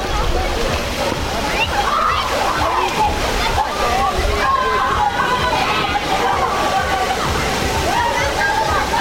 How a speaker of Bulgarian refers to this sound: Ето с каква глъчка ни посрещна единият басейн.